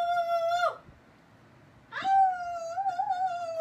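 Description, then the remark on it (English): A person imitates a Sasquatch yell: two long, loud, wavering howls with strong harmonics, the first ending in a downward slide, then a brief pause before a second sustained, warbling cry. “Let's hear the Sasquatch yell one more time.”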